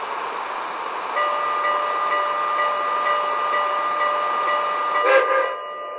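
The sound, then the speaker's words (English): A passenger train, train number 94 from Denver, the North Platte Valley Express, pulling into Cheyenne station on track 2: a steady mechanical rumble with a sustained high whine, rising briefly near the end before settling, with no one talking. “from Denver on track 2, train number 94, the North Platte Valley Express.”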